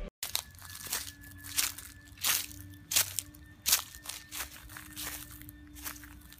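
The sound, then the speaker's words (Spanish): Footsteps of four people walking a path into a forest crunch through thousands of dry, toasted-brown autumn leaves on a cold, bleak autumn day, in a steady walking rhythm, about ten crisp, crackling steps over a faint low hum, with no voices. “Miles de hojas secas de color tostado crujían bajo sus pies.”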